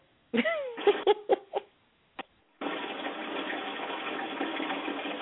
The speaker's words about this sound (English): Is that the sound effect from a flush and toilet? I don't know what was going on there.